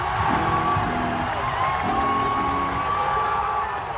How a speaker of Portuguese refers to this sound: João Fonseca teve nas arquibancadas de Melbourne o apoio constante de uma torcida vibrante. Brasileiros com camisetas da seleção agitando bandeiras davam forças para a nova sensação de tênis do país.